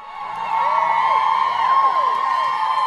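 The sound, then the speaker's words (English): A dense crowd of fans crammed along a race route cheers and screams for glimpses of the runners, many high voices overlapping in a sustained, loud roar that swells early and holds steady throughout. “Despite the rainy weather at the beginning of the race, fans crammed in along much of the route for glimpses of all the runners.”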